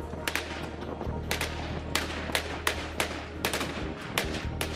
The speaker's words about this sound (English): Gunfire signals the Iraqi Federal Police push deeper into Mosul's old city Sunday as they try to recapture more positions from the Islamic State group.